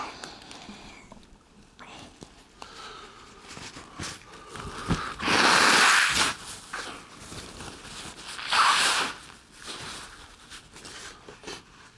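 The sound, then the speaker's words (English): Someone blows their nose twice, loudly: a long, rough honk followed a few seconds later by a shorter one, with faint rustling and shuffling in between. “Sorry, I need to blow my nose.”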